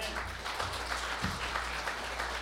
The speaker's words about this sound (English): Can we give him a hand?